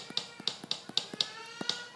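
A digital drum kit's bass drum, on the lower part of the kit, struck about nine times in quick, slightly uneven succession, each short thump carrying a sharp clicky attack, fairly quiet with no talking.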